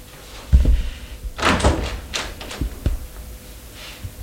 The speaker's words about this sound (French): Elle entrebâille la porte.